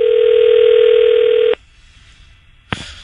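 A steady, buzzing telephone dial tone holds for about a second and a half as a call is placed to a number for Mark Zuckerberg, then cuts off into near silence before a brief sharp click of dialing near the end.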